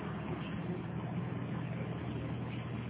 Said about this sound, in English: There's another truck that just went by, but he has a muffler. That one, that was a good one. Same with the hay in it.